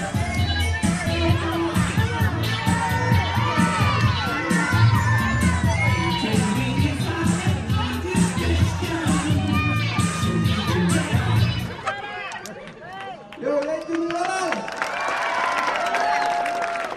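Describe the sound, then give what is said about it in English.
A large crowd of children screams and cheers loudly and continuously, a dense wall of high shrieks and whoops; a deep rumbling backdrop drops away partway through, leaving thinner but still excited shouting. “I got some really good audio of the crowd screaming and...”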